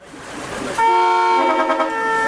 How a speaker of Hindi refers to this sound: Horn की ये आवाज़ें पाकिस्तान प्रशासित कश्मीर से आ रहे ट्रक की हैं। पाकिस्तान प्रशासित कश्मीर से आने वाले कई ट्रक उड़ी के सलामाबाद ट्रेड फैसिलिटेशन सेंटर की तरफ बढ़ रहे थे और ये ट्रक मेन गेट के अंदर दाखिल हो रहे थे।